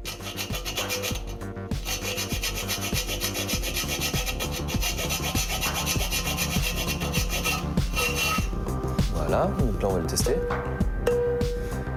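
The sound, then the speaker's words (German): A hand saw cuts through a piece of wood in steady, rhythmic back-and-forth strokes, fairly loud, to lower the note it sounds from a C, continuing throughout with a low voice faintly present underneath. “Wir müssen noch weiter sägen.”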